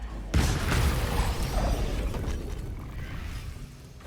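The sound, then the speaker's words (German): A sudden burst of video game explosions as mines in the game blow up and damage enemies, followed by several seconds of rumbling, crackling debris noise that slowly fades. No one speaks. “Moment, die Minen sind explodiert?”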